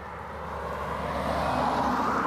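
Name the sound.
car passing by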